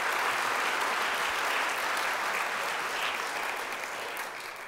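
An audience claps steadily in a dense, even wash of applause that holds strong and then starts to thin and fade toward the end.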